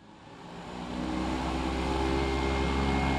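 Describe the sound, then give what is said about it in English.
A loud, steady engine roar of airplanes taking off outside the Quincy Regional Airport swells over the first second and then holds strong, with a broad rushing hiss and low droning tones. No one speaks. “The sky outside of the Quincy Regional Airport is filled with the sounds of airplanes taking off.”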